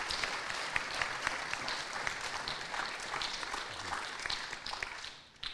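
An audience applauds steadily, a dense patter of many hands clapping at an even level for several seconds before tapering off near the end.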